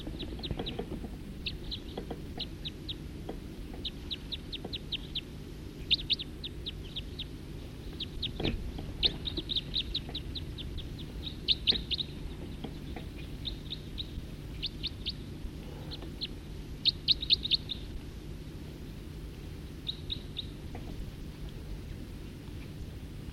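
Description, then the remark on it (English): Many birds gathered in a tree chirp in quick, high-pitched bursts of repeated notes, overlapping calls coming and going over a steady low rumble, with no one speaking. “There's really quite a few birds in this tree right here now.”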